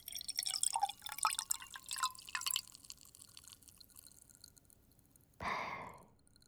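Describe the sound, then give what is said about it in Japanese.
Fizz of a carbonated drink: a dense crackle of tiny popping bubbles for a couple of seconds, fading to quiet, then a brief louder hissing gush near the end. “炭酸。”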